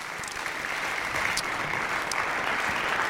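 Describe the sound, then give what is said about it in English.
A concert audience applauds the band's guitarist, drummer, saxophonist and keyboardist at a live music show, a dense, even wash of clapping that holds at a constant loudness for the whole stretch, with a few sharper individual claps standing out briefly. “A big round of applause for Gabriel Cyr on guitar, Stéphane Chamberlain on the drums, Damien Jatzir on saxophone, and Francis Grégoire on keyboards.”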